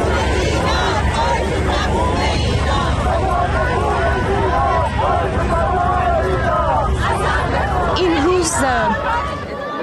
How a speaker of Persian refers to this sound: جایی که جمعیت بزرگی از هزاران ایرانی از ایالت‌های مختلف آمریکا و همینطور از کانادا به اینجا آمدن، دور هم جمع شدن، حتی غیر ایرانی‌ها به اونها پیوستند و همه با هم نام مهسا امینی رو در حمایت از اعتراضات سراسری ایران فریاد می‌زنند و تکرار می‌کنند.